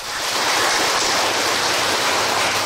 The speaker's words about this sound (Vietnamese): Chúng ta tri ân sư trụ trì, chúng ta cho một tràng pháo tay đi.